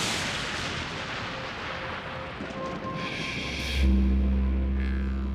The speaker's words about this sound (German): Dunkle Wolken, Donner. Grelle Blitze zucken über den Himmel. Und dann schlägt ein Blitz ein, entfacht Feuer.